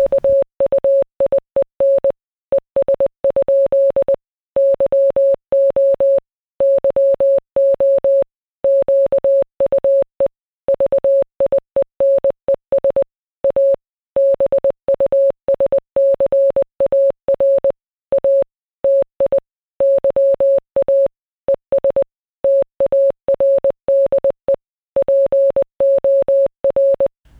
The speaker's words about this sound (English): But how that would sound is like two Morse codes beeping at each other. So that's, for us, it would be amusing to listen even to that.